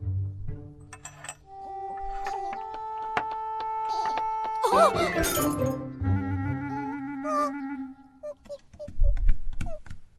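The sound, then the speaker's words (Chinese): A bowl hits the floor and shatters in one sharp crash midway through, with bright clinking fragments, set against light tonal background music. “你把碗摔碎了。”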